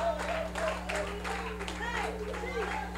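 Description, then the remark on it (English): An audience claps and cheers steadily throughout as a clap offering to Jesus, dense applause mixed with scattered whoops and raised voices, at a fairly loud, even level. “Oh, give him a rousing clap offering.”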